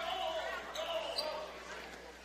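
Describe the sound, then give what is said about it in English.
A basketball being dribbled on a court floor during a game in the first quarter, as a player's crossover ends with him picking up his dribble under tough defense; its bounces blend into a steady roar of crowd noise, with faint voices mixed in. “Crossover here, Markham has to pick up his dribble.”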